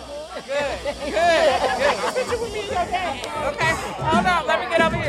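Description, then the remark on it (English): A dense, lively crowd chatters at the April 2024 opening party of the restaurant Minnie Bell's Soul Movement in San Francisco's Fillmore District, the party spilling out onto the sidewalk; many overlapping voices talk and laugh at a steady, loud level with occasional sharper exclamations rising above the hubbub. “The party spilled out onto the sidewalk”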